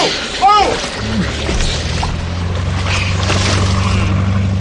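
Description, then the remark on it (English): A motorboat engine hums with a steady low drone as the boat backs off from a sandy shore in waist-deep water, over a wash of rushing water and wind, with a brief raised voice near the start. “Back her off”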